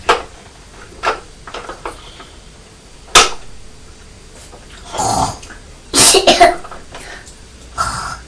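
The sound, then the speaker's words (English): A young child coughs repeatedly, short sharp bursts spaced irregularly, with a louder cluster of rapid coughs toward the end and quiet pauses between them. “That's right, you're coughing like Daddy, aren't you?”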